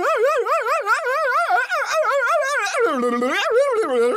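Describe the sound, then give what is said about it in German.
During a timed challenge, a person imitates a barking dog with a loud, unbroken run of quick, wavering yelps that bob up and down in pitch, dropping lower toward the end. “Das war jetzt aber eher Gebelle. Ich weiß, klang wie ein Hund.”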